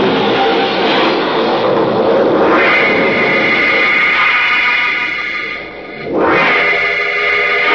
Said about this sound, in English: Steady the car. I can't. We're skidding. The brakes won't hold. We're going over the cliff.